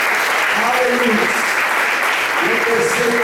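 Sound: audience applauding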